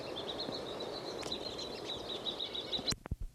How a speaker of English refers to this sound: Again, 10:20. Same birds, same flock. This chickadee is foraging. I don't see any others nearby. It's giving 3 calls.